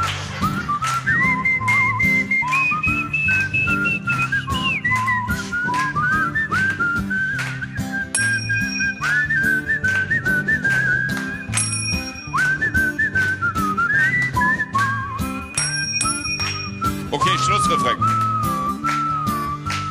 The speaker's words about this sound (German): Los, alle mitpfeifen, weil wenn wir pfeifen, sehen wir alle gleich scheiße aus.